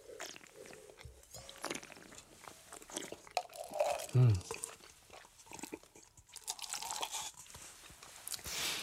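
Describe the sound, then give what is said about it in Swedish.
Wine is spat into a porcelain spittoon during a wine tasting: one short, wet splash burst stands out midway, surrounded by softer slurping and mouth noises, with low voices murmuring in the background. “Nu låter jag, du stänker i våra spottkoppar här och som lyssnar för undrar, men det där låter ju inte speciellt bra.”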